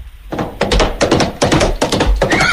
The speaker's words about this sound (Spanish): ¿Caballo? ¡Cale! ¡Vamos! Perdona, pero eso es un tío con dos cocos, ¿no? Sí, es verdad. Parece sacado de una obra estas de teatro, ¿no? De radiofónico.